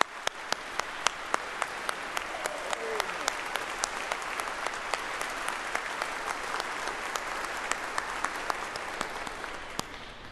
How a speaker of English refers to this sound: To ask you to say or tell the person next to you, this is my pastor, because you just showed it by how much you applauded and stood up for him.